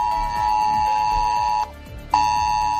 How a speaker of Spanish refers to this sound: Son las comarcas de Tarragonés, Baix Camp, Baix Ebre, Montsià y Ribera d'Ebre. Allí acaba de sonar la alerta de Protección Civil.